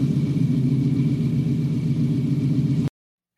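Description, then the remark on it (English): A loud car engine roars steadily with a deep rumble for nearly three seconds during a car chase, then cuts off abruptly into silence before a brief return at the very end. “They didn't pull over, and he had to eventually chase them down, use the engine.”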